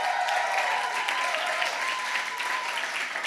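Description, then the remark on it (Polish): An audience in a church claps to welcome a guest, steadily for a few seconds, a dense, even patter of many hands at a constant loud level with no voices rising above it. “I także przywitajcie Marcina Rozenowa, wielkie brawa.”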